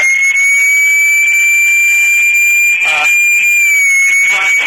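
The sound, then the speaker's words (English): A siren holds one loud, high-pitched wail through the whole clip, its pitch drifting only slightly, on a street with burned cars after hours of clashes between demonstrators and police. Brief bursts of crowd noise and muffled voices rise beneath it. “As you can hear, there's still sirens going on in the background.”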